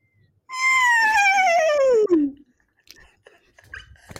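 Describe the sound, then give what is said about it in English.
A person imitates a screech owl: one long, quavering whinny that slides steadily downward in pitch over about two seconds, loud and tonal, followed by faint rustling and quiet murmurs. “Now that, of course, is specifically a screech owl.”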